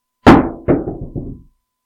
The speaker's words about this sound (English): As their tears fall and our fingers start to loosen on our rocks, and you let the rock fall to the ground with the flat thud of grace.